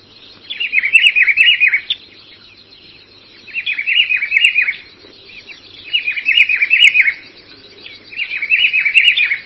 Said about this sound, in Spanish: Este es el Juan Chiviro, también un pájaro que canta muy bonito, que prácticamente se esconde mucho en la vegetación y canta desde ahí adentro, ¿no?